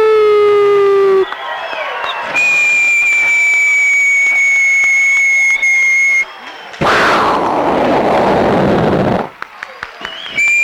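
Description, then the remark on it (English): A group at a Fourth of July talent show imitates a Statue of Liberty fireworks display as the grand finale: rising and sustained whistling tones, then a loud, noisy burst like an explosion and crackle, followed by a few quieter sputters. “And now for the grand finale, the Statue of Liberty fireworks display.”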